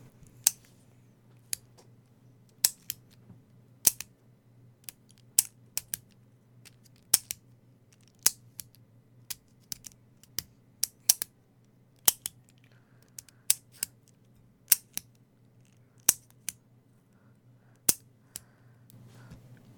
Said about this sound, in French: qu'as-tu pensé du clic-clic-clic du stylo ?